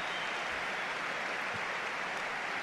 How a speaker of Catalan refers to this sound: És important tancar aquesta victòria. Mira, mira quina ovació per Billy.